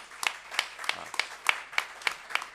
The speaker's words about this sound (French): on peut aussi l'applaudir.